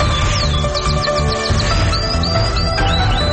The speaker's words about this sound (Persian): اینک مشروع خبرها با چهچهی همکارم قناری.